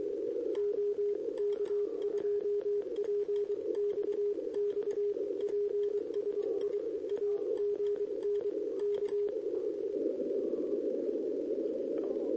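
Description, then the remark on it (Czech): A weak radio signal: a thin tone pulsing in quick, irregular bursts buried in steady hiss and crackling interference, then fading out so only the static remains for the last few seconds. “Já to nemůžu pobrat, protože mám rušení a je slabý.”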